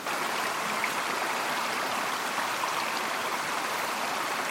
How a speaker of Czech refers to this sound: Jdeme po cestě přímo kolem bublajícího potůčku, který doslova zpívá.